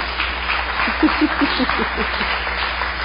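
A crowd applauds steadily for about three seconds, a dense wash of clapping with a few murmured voices mixed in beneath it.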